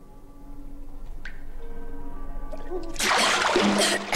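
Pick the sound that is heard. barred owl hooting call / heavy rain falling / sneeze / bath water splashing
bath water splashing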